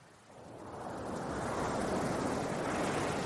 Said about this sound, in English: The waters flowing towards the grassy bank and lifting up the boat onto the bank. Feeling the warmth, the sunshine. Lingering in the sunshine and within the sound of the flowing water beside you.